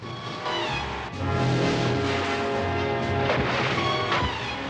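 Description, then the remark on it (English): A boat in a James Bond river chase hits a mine and explodes in a loud, sustained blast: deep rumbling booms under a dense roar of crackling debris and fire, staying heavy for several seconds with a few sharper bursts, and no voices. “The boat explodes, sending debris flying high into the air and plumes of flames and billowing black smoke.”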